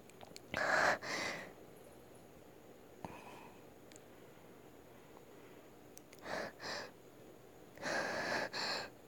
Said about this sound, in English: At least you'll have some more noises to enjoy. By noises, I really mean my breathing, but yeah.